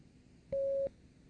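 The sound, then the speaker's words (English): A single electronic beep signalling the start of a German-language exercise in which each number is said aloud, a steady mid-pitched tone lasting about a third of a second, sounds clearly over faint low background hiss. “Begin when you hear the beep.”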